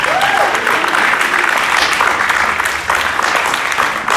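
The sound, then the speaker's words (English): An audience at a church service applauds to give the Lord a hand, a loud, dense wash of clapping that holds steady for about four seconds, with a few voices faintly mixed into the noise. “Come on, let's give the Lord a good hand.”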